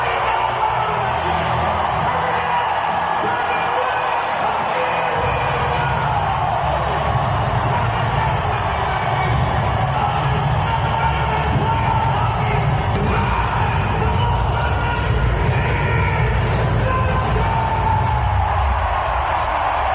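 A hockey crowd in Las Vegas cheers in a loud, unbroken roar for the full twenty seconds, with whoops and shouts rising out of the din and a deeper rumble swelling after the first few seconds.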